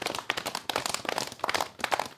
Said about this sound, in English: Why is it very dark and I hear horses coming toward me?